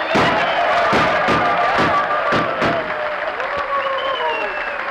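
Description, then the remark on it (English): A loud crowd ovation of clapping, whoops and whistles as a rootin' tootin' Western reception, punctuated by a rapid series of sharp gunshots in the first few seconds, with one more shot near the end. “Well, how's that for an ovation, Jackson? Gunshots and everything.”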